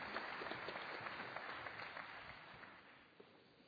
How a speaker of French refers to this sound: Merci, on vous applaudit tous.